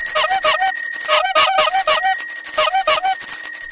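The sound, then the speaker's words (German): A loud, busy clatter of bicycle bells ringing repeatedly in quick, overlapping bursts, with a brief honking horn blast in the middle, continuous with no voices. “Ein lautes Konzert von Fahrradklingeln und Hupen weckte sie.”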